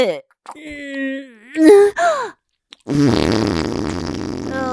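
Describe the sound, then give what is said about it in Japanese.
A string of loud farts: a couple of drawn-out, tonal, squeaky ones with a short pause, then a longer, rougher sputtering fart that carries on to the end. “くっさいおなら連発。ほーら、まだまだ出るわよ。”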